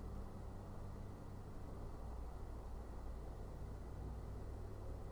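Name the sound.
distant road traffic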